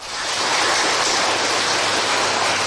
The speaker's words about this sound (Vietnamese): Chúng ta tri ân sư trụ trì, chúng ta cho một tràng pháo tay đi.